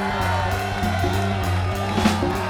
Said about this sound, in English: So stage right, we got … on the keys over there, ladies and gentlemen. Round of applause.